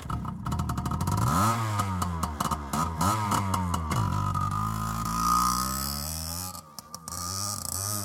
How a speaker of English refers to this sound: So Tony's out fucking around warming up the motorcycle.